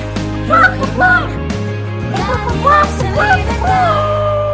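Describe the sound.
A person imitates a clucking hen, a run of warbling, rising and falling clucks over a steady low background hum, fairly loud for several seconds.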